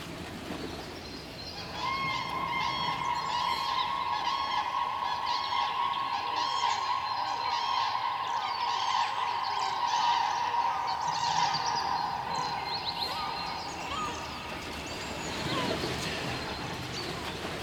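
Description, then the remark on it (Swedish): Common cranes give their breeding call: loud, rattling trumpet notes repeated in a rapid, continuous chorus for about thirteen seconds, clear, with no talking over them. “Vi ska ta och höra på det här häckningslätet också.”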